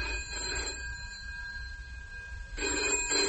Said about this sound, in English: The telephone bell kept shrilling, and her anxiety had programmed itself into the sound.